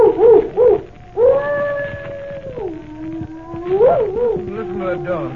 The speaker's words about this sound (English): Listen to that dog. He's in an ugly temper.